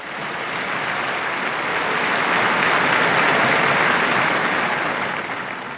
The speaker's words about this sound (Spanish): Un aplauso al nuevo beato. Un aplauso a este nuevo beato.